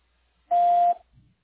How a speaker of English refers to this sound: To leave a message, please press 1 and wait for the beep.